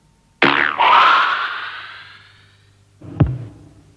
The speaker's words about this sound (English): The actual release of the arrow is the sound of a thick elastic band being plucked.